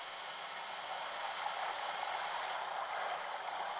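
Water gushes from a tank spout in a steady, unbroken rush, loud, holding an even roar for the whole few seconds with no voices over it.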